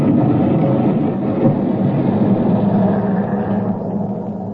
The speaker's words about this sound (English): Boy, that was a close one. If I hadn't tossed that can of nitro away... What kind of a crazy trick was that? You blew up a perfectly good dock engine.